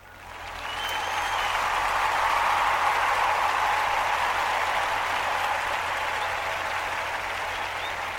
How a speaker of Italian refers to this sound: Allora, la scaletta di oggi rapidamente, vediamo un po', faccio gli applausini che mi servono per suddividere la puntata in capitoli e poi vado.